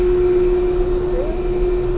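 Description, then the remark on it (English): Machinery in the motor room aboard the ship Nore, with large electric motors of 1,500 horsepower each, drones steadily, a constant mid-pitched electrical hum over a broad rumbling wash of noise, with a faint upper tone briefly rising partway through. No one speaks. “We're about to go into the motor room, and you should expect to hear some interesting sounds here.”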